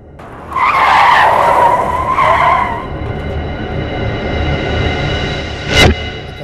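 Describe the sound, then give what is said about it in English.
Loud screech of car tires skidding for about two seconds as a car knocks down a pedestrian, briefly wavering before fading into a steady engine drone, then a short sharp burst near the end. “This car just came out of nowhere and I didn't see him and he didn't see me.”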